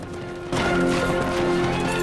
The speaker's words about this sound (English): A rider gallops across open ground towards a hooded figure wearing the king's robe.